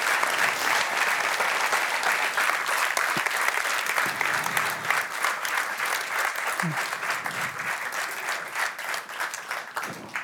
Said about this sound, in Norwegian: Men kan vi ikke gi Benedikte en varm applaus?